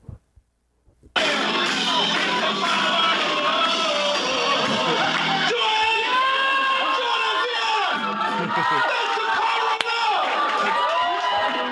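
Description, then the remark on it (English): A large concert crowd roars with cheering and clapping after a brief quiet start. It is a dense, loud, sustained wall of shouts and applause with many voices blending together, after a three-piece band's backing track ended mid-song and the band members laughed and clapped too. “Plus, the band members were laughing and like in shock and clapping too here's hard. Here's what it sounded like.”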